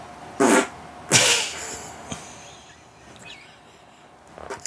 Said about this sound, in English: Have you been eating lamb chops? Because that's a fart that never ends.